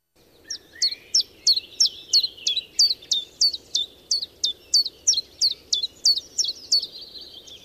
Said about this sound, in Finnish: Sitten menemme viikon luontoäänen pariin. Luontoäänenä on tiltaltti.